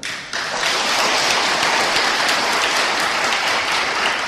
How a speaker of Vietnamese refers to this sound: Thầy nghe vỗ tay là thầy nín rồi, thầy liền để cho vỗ. Nhưng mà con người vẫn còn bõn xẻn, keo kiết, vỗ nhỏ xíu à.